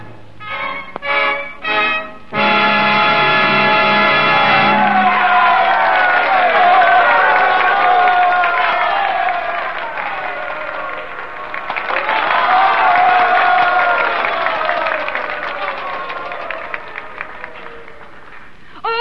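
After a few short opening bursts and a held chord, a large audience breaks into sustained applause and cheering that fades slightly, then swells loudly again before tapering off.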